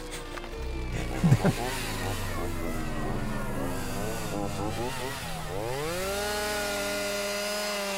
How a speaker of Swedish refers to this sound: Grannarna här ute och en person som promenerar vid stranden hör de här dagarna vågorna från havet upplandas med ett ovanligt men mycket lätt igenkännbart ljud. Det rivande, obevekliga ljudet av motorsågar.